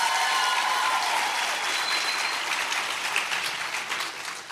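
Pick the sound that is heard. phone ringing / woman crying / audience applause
audience applause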